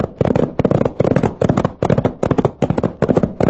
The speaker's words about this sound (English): Those shots came from just ahead of us.